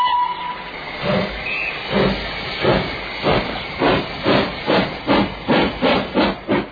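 A steam locomotive chuffs and hisses, its rhythmic puffs starting slow and steadily quickening as it gains speed, loud with no voices.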